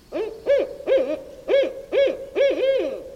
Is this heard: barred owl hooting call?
yes